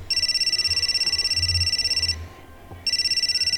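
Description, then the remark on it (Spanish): A telephone rings with a fast, warbling electronic trill: one long ring, a short pause, then the ringing starts again. It is clear and fairly loud, with no voices. “Charlie quería avisar a la policía, pero de repente sonó el teléfono”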